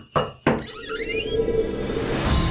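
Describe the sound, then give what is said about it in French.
A door-opening sound effect marks the opening of a door in an Advent calendar: two sharp thuds, then a gliding, creaky tone that settles into a steady, shimmering hum lasting to the end. No one speaks. “C'est l'heure d'ouvrir une porte.”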